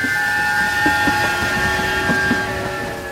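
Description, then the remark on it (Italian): A train bound for Perm rolls steadily along on a summer day in 1903 with a continuous rumble and faint whining tones, its wheels clacking in a loose rhythm over the rails, fairly loud with no voices. “In un giorno d'estate, sul treno diretto a Perm, in uno scompartimento di prima classe, due uomini chiacchierano.”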